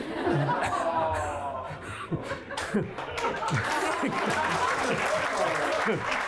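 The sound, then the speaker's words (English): An audience applauds steadily for several seconds, a dense wash of clapping mixed with scattered chuckles and murmured voices from the crowd. “I'll let the applause get out of the way because I know I won't get any.”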